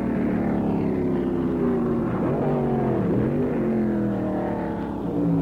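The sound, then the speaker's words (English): Loud, droning racing engines roar continuously, their pitch climbing and dipping as cars rev and sweep past, with several engines overlapping and no voices. “His competition right now is making him mash in the gas a little harder.”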